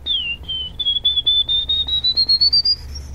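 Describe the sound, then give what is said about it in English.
A person whistles a field sparrow's song: clear, high notes that start slow and speed into a rapid trill, gently climbing in pitch, heard alone with a low background hum. “Or field sparrow.”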